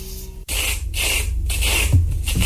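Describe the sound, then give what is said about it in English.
Butter spread on toast in rough, raspy scraping strokes, about four loud swipes in a steady back-and-forth rhythm, with no voices. “Oh, and that was the butter spreading.”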